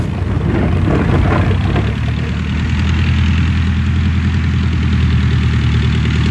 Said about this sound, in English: This isn't coming from the road. It's coming from the sky. An aeroplane!